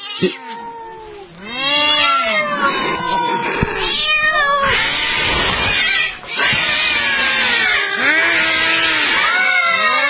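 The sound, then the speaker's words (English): Overlapping angry cat meows and drawn-out yowls, imitated by a voice, rise and fall in wavering arcs, loud, continuing almost without pause for around ten seconds. “Those cats are freaky.”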